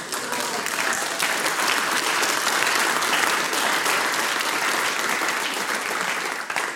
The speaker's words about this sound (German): Dürft ihr euch selber wieder mal zwischendurch einen Applaus geben, weil ihr so brav seid.